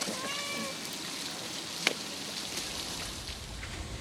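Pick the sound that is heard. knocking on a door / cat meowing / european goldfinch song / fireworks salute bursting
cat meowing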